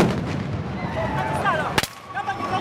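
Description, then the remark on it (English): Police in Kampala, Uganda, fire tear gas at crowds supporting opposition candidate Kizza Besigye ahead of an election: one sharp, loud bang cuts through a steady wash of crowd noise and scattered shouts, then the din carries on. “The sound of police firing tear gas at crowds supporting opposition candidate Kizza Besigye, who was briefly detained.”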